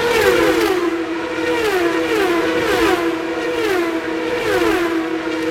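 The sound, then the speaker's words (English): Loud, continuous high-pitched whine of racing engines, the pitch wavering slightly as race cars roar past in a steady stream during a high-speed street race in downtown Long Beach, California, by the shores of the Pacific Ocean, with no talking. “And for 3 days, it turns into a high-speed street race in downtown Long Beach, California.”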